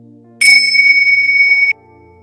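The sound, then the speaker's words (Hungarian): A single bright bell rings once, loud, at the start of a guided relaxation, its clear high tone holding steadily for just over a second before cutting off, over a faint low hum with no one talking. “Arra kérek, hogy helyezkedj el kényelmesen, kezed, lábad ne legyen keresztbe, és vegyél egy jó mély lélegzetet, és ahogy kifújod a szádon, csukd be a szemed, és engedd be a csengő hangját.”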